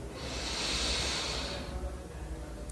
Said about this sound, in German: Wir nehmen gemeinsam den ersten tiefen Atemzug und atmen ein